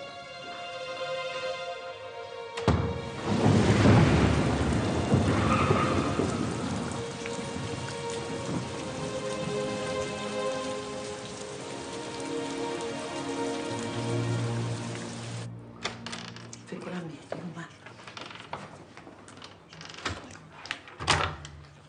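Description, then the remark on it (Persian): Heavy rain pours down steadily, a dense hiss drumming on surfaces, with a low rumble of thunder surging early on before the downpour settles into a constant wash. “چرا اینجوری خیس شدی تو؟ چی بابا بارون و ماشین و بلا پشت.”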